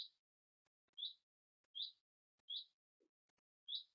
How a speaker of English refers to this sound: Just abiding with the bird song, with the breath, with all the sheep that are here.